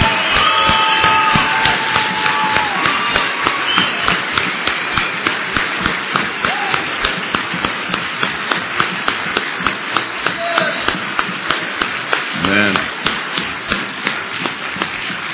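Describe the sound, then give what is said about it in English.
Sustained audience applause for a husband and wife, the wife applauding for her husband, a dense wash of many hands clapping steadily for about fifteen seconds, loud and even, with individual claps popping out rhythmically through the noise. “I want you to double it because she's applauding for her husband.”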